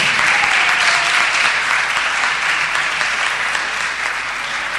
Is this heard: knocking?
no